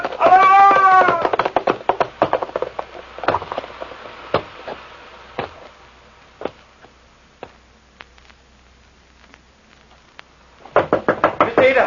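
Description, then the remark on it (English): Loud, insistent knocking on a door: a rapid flurry of blows, then slower scattered single knocks, and another hurried burst at the end, with brief raised voice-like calls at the start and finish. “Open the door.”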